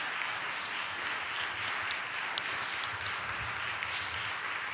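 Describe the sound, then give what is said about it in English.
An audience applauds steadily for standing couples who have been married 40 years or more, a dense, even wash of many hands clapping at once, with faint sharp claps poking through the sustained roar for the whole stretch. “We just want to applaud you.”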